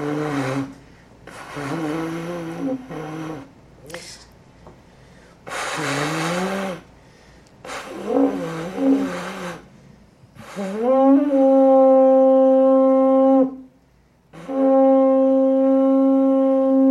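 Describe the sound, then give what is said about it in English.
A samurai trumpet made from a shell blares several rough, wavering low bursts, then sounds two long, steady, loud sustained notes with a buzzing, horn-like tone. No one speaks. “This is the samurai trumpet.”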